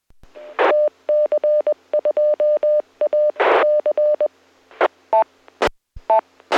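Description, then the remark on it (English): Rapid Morse code beeps coming in over an amateur radio technical net (KC2RC), a steady mid-pitched tone keyed on and off in short dots and dashes, interrupted by loud bursts of radio static and squelch crackle, with no voices. “It's funny how that Morse code always comes in right at that same time.”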